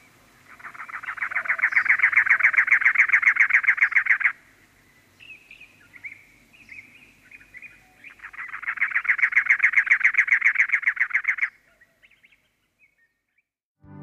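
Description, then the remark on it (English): A cactus wren, the state bird of Arizona, sings two long, harsh, rapid chugging phrases, each lasting a few seconds and swelling in loudness, separated by a pause with softer scratchy calls, with no talking. “And as usual, for a brief rest from the human voice before the news, we leave you with birdsong. And this week, it's the cactus wren, which, as I'm sure you know, Lawrence, is the state bird of Arizona.”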